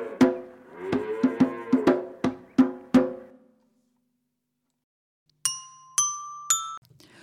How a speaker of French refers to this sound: Jouons des grelots et des petits bâtons pour ma chèvre qui fait des bêtises.